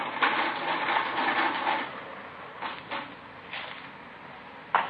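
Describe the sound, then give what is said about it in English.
A mechanical adding machine clatters in a dense rapid burst for about two seconds, then gives a few separate clunks and a final sharp crank as the total is run, adding up the amount of money taken from a store. “I got the figures on the machine.”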